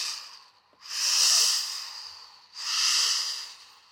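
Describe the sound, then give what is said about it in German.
A voice makes long, breathy "sch" shushing sounds that swell and fade in slow waves, two drawn-out surges with a softer lull between, imitating the surf washing in and out on a beach. “»Sch, sch, sch«, macht sie. »Hörst du die Brandung?«”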